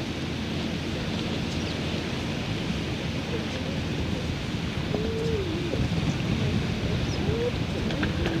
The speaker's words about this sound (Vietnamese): Đây là gió biển đấy.